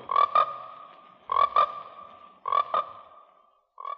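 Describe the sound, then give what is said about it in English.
Loud frog croaks from the swamp in the film Frogs repeat in a steady rhythm: three double-pulsed calls with a ringing tone, spaced about a second apart, then a fourth starting at the end. No voices. “It might be called Frogs, but it's about the entire swamp coming alive to kill people”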